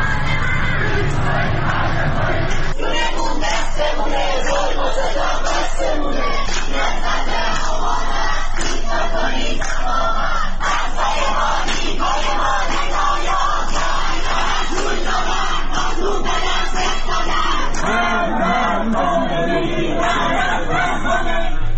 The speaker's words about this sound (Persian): جمعه 13 آبان 1401 20 متری جوادیه، بچه‌ها دارن شعار میدن.